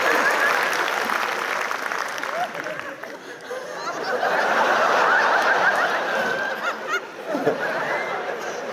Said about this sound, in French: On fera pas de bruit. On va arrêter d'applaudir pour toi